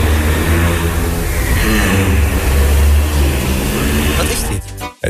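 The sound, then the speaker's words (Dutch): A giraffe's low, droning hum, loud and continuous with a rough, engine-like buzz, sustained for several seconds before cutting off abruptly near the end. “Het is een giraf.”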